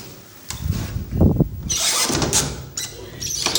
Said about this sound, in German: So, ich mache jetzt mal die Wohnzimmertür zu hier.